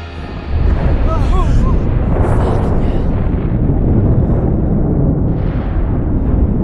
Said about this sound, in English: The fracking tower explodes, balls of orange flames churn skywards, and thick smoke fills the air.